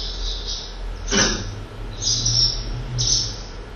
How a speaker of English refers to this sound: Swallow. It's a very familiar sound, really, but you don't always take it on board. Swallow has such a complex song as that. It's just quite a distinctive sound. And these are the contact calls.